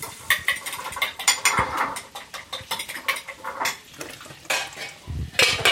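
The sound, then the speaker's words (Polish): Metal utensils clatter and scrape against a pan in quick, irregular bursts, with a faint sizzle of fish frying underneath; fairly loud, no voices. “Zaraz, kochani, muszę rybę smażyć.”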